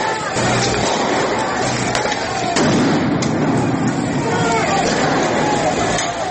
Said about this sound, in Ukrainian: Почав знімати, коли побіг Беркут. Ніхто нічого не міг зрозуміти, потім оці постріли.